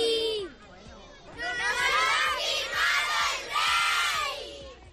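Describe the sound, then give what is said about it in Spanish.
A group of children shouts and cheers together in loud, excited bursts as they ask the King of Spain to sign their Spanish flag, rising in two big waves of high-pitched yelling after a brief lull. “Se lo han pedido entre risas, nervios y gritos, y su majestad, con una sonrisa, ha cedido.”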